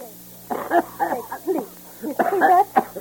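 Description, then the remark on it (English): A man with a cold coughs in two quick clusters of rough, throaty bursts, with a brief pause between the fits and no talking. “You're coughing, and you have a cold, and I should go to movies.”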